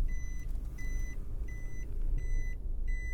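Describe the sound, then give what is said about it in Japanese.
A car reversing slowly in a parking lot by Shin-Yubari Station, Japan, its warning beeper sounding in a steady on-off pattern, about five evenly spaced beeps over a low idling engine rumble, with no talking. “バックしまーす。”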